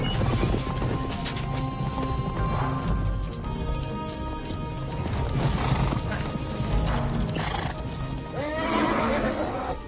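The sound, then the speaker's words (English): Horse hooves clip-clop steadily while horses whinny and snort, with a loud neigh rising near the end over a busy, dense background. “hold your horse, Captain.”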